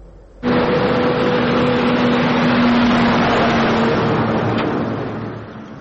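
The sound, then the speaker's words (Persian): A heavy cargo truck engine drones loudly and steadily at the Afghanistan–Pakistan border as trucks resume their journey after Pakistan reopened the crossings. It starts abruptly and holds a low, humming rumble with a broad roar of road noise throughout, no voices. “صدها ماشین بورکش که در دو طرف مرز افغانستان و پاکستان درمانده بودند دیگر بوره راهشان را ادامه دادند”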